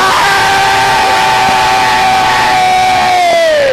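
Loud, chaotic yelling and screaming fills the whole stretch, with a sustained shrill cry held over a rowdy wash of shouting voices, all close and unbroken.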